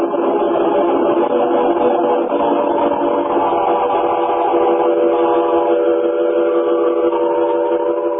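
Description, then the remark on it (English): A train pulling out of a station, its whistle holding a long, steady, loud blast over a low rumbling undertone for several seconds, with no voices. “But the train's pulling out, lad.”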